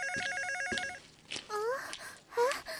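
A family's home landline phone rings with a fast electronic warble for about a second, clear. It stops and a person starts talking.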